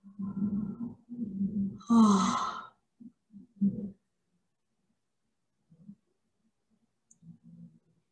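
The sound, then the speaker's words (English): Several people give drawn-out, groaning yawns one after another, one rising into a loud breathy stretch, followed by a few short, quieter murmurs separated by silence. “All I need to do is bring this up and everybody's yawning like, wow.”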